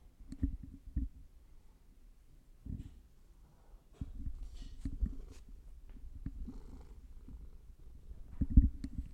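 A pet cat named Fat Cat purrs, a low rumbling drone broken into rhythmic pulses, growing louder and steadier toward the end, with no talking.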